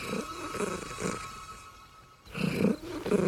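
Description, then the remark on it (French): A creature sound resembling a cat's purr: rhythmic, throaty low pulses, fading into a short hiss-filled pause before returning louder and rougher. “Ça pourrait donc être un chat vu qu'il ronronne.”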